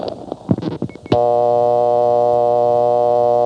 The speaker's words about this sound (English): The next one is Morrisville, just a reasonably large-sized step for Vermont, which is not very large, and it had new CDO tones. Now, as of 1975 summer, it still has its original dial tone.